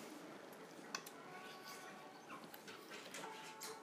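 A male dog, Monster, whimpers softly in thin, high, wavering whines over a steady hiss of background noise, with a few sharp clicks scattered through.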